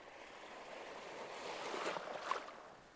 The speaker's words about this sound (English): So continue to listen to the sound of the sea and enjoy this place, taking it all in.